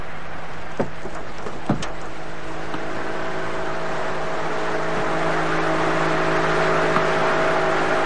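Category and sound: vehicle, car engine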